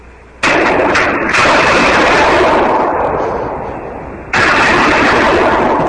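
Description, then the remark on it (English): Two loud shots fired from a battle rifle and recorded on a phone held by a friend, each hitting with a sudden harsh crack and followed by a long, dense roar of noise that barely fades before the next shot lands about four seconds later. “That was me firing. I got a rifle.”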